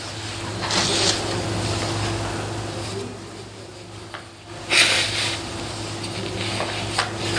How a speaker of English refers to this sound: Pardon me while I blow my nose.